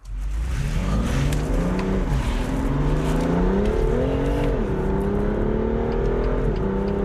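A sports car engine roars up close as it accelerates hard, pitch climbing steadily and dipping briefly at two gear shifts, loud and continuous for the whole stretch with no talking.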